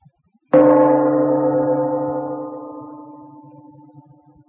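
A gong is struck once, its bright metallic ring swelling with layered tones and then slowly fading away over several seconds, with no voices present.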